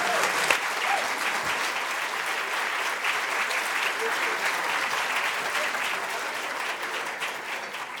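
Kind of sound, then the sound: crowd, audience applause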